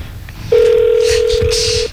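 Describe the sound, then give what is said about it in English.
A telephone dial tone hums steadily and loudly for just over a second, then cuts off, with faint background noise around it and no audible button tones, as someone places a phone call. “I gotta make a phone call real quick.”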